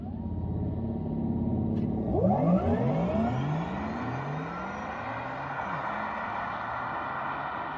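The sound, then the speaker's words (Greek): A Taycan electric car's futuristic synthesized acceleration sound: layered electronic tones sweep and rise in pitch over a steady hum, loud, with no talking. “Που ξέρετε, έχει γίνει ολόκληρη μελέτη γύρω από αυτόν τον ήχο, γιατί δεν θέλει ο εργοστάσιο να έχει έναν ήχο ο οποίος μιμείται ένα βενζίνο κινητήρα. Αυτό είναι το εύκολο. Η ιδέα είναι να έχει ένα ήχο φουτουριστικό.”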